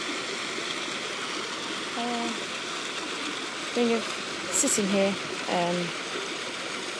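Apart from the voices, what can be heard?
water fountain splashing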